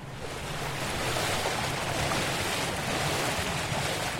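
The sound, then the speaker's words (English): A boat moving across open water in southwest Florida while deploying a foam technology to mitigate blue-green algae: steady wash and splash of waves against the hull with a low engine rumble and some wind buffeting, continuous and fairly loud, no voices. “WGCU's Rachel Iacovone reports from the boat that was deploying the technology into area waters this month.”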